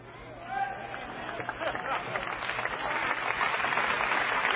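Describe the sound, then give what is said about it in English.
Audience applause swells steadily from a scattered start into dense, continuous clapping, with a low murmur of voices underneath and a faint brief tone near the beginning. “All the smart people ain't clapping.”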